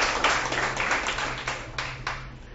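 A round of applause from a crowd for a woman from Uruguaiana working in Brasília on anti-corruption measures, dense steady clapping with repeated bright bursts that fluctuate in intensity, moderately loud throughout with no voices over it.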